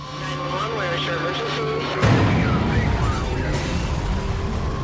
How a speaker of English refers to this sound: Suddenly, at 3:30 a.m., the calm is pierced by the sounds of a fire alarm at Vail Ski Patrol headquarters.